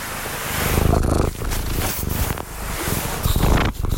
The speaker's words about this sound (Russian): Ну это кошечка. Мейке. Она. Да. Девочка. Девочка. Мейке. О, уже мурчит.